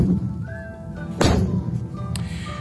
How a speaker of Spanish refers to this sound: Así suenan los disparos que hace una fragata como la Cristóbal Colón, que entró en servicio en octubre de 2012, tecnológicamente lo más avanzado de la Armada.